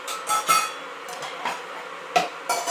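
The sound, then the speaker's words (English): A stainless steel dish is tipped across a hard floor toward the dogs' food, clattering and scraping in a string of irregular, bright metallic knocks, moderately loud, with no voices. “Can you nicely tip that across the floor to the food?”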